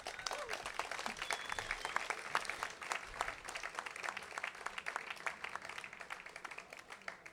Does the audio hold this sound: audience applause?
yes